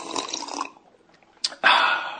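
A person noisily slurps coffee: a hissing sip, a pause with a small click, then a second, louder drawn-out slurp. No one speaks.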